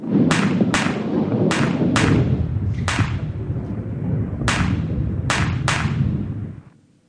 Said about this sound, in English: The firework known as the squib was most common. This is a contemporary Chinese squib. I wasn't able to find a squib of the day, but it gives you an idea, and I'll explain a little bit more about it in a moment.